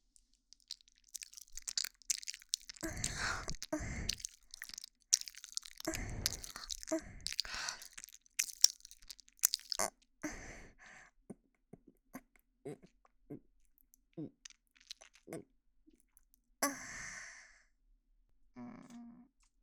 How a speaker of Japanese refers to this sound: このまま、あなたの分身を、あなたの耳元で、咀嚼してあげる。